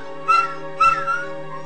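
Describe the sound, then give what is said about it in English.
A dog named Cinnamon, a neighbor's dog, gives two short, high-pitched whimpering yelps about half a second apart, fairly loud, after being kicked by kids, over a steady tonal drone in the background. “One afternoon, he sees kids herding a dog named Cinnamon, his neighbor's dog.”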